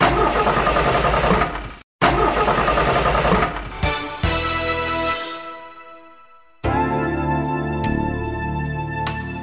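A car engine cranks in rough, sputtering bursts with a brief cutoff, then catches and settles into a steady, humming idle that fades before a fresh loud engine drone kicks in.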